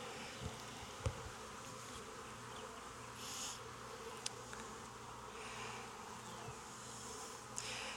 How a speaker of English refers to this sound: This could use a shake of some nurse bees. There's a lot of bees in the bottom too.